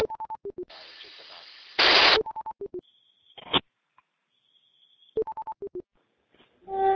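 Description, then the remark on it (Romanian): Rapid bursts of touch-tone dialing beeps come in quick clusters, broken up by a loud blast of static, a steady high tone and brief clicks, with more dialing tones near the end. “O, acum am să sun.”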